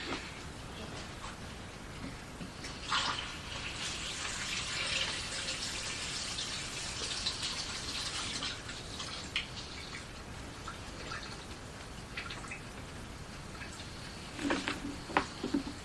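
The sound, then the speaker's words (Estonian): Tap water runs steadily from a tap in a hissing stream, with a few louder splashes and drips breaking through near the start and again toward the end. “Kraan ja vesi on just see parim.”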